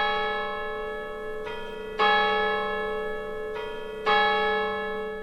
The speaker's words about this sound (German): Zoberst auf dem Kirchberg thront sie, die reformierte Kirche von Köttingen. Bis weit aber in die umliegenden Dörfer hört man die Kirchenglocken läuten.